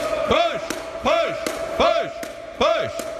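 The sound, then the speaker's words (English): Four loud, evenly spaced bangs on a Staples Center door by a man outside at entrance one, each one following a shout whose pitch swoops up and then drops, repeating in a steady cycle. “There, there's a guy outside banging on Staples Center door.”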